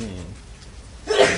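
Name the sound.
sneeze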